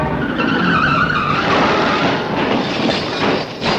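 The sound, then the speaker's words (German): A car's tires screech in a long, loud skid lasting several seconds, harsh, with a brief dip near the end before the noise surges again. No one speaks. “Wenn ich kurz nicht aufpasst und schon klopft es.”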